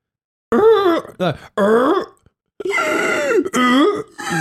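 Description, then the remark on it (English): A voice imitates a child's harsh, seal-like barking croup cough: several strained, voiced bursts in quick succession with brief gaps, fairly loud, with no other sounds. “we woke up to what sounded like a seal was in the house. Bodhi was doing this cough.”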